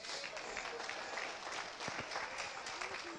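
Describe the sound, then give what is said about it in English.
A small audience claps steadily for a few seconds, a modest patter of hands, with faint crowd murmur mixed underneath. “I got two claps.”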